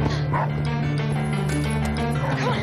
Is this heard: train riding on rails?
no